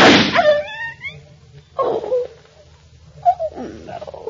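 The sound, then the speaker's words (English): A single sharp pistol shot, fired at a dog, bursts out loudly, followed at once by a high, wavering dog yelp that fades, then scattered muffled vocal sounds. “I had to shoot Mrs. Houston's dog.”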